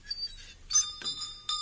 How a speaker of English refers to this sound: What's that handle on the side of the door? Where? Oh, it's a bell pull.